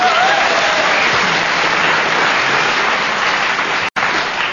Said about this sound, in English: No comedy, but a round of applause, not bad.